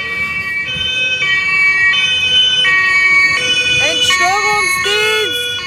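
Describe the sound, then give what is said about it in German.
A loud two-tone siren from a fault-repair service (Entstörungsdienst) vehicle alternates steadily between high and low pitches, with a wailing sweep near the end, over constant traffic rumble. “Seit wann macht denn der Entstörungsdienst so einen Radau?”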